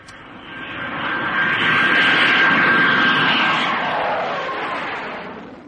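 A plane flying faster than sound roars past, a dense rushing engine noise with a thin steady whine that swells quickly, holds loud for a few seconds, then gradually fades away.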